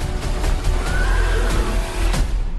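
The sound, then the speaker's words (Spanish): A horse whinnies briefly amid a dense, loud action-film fight mix, with sharp kicks, punching thuds and impacts landing throughout and a constant rumbling background. “Y un relicho de caballo también.”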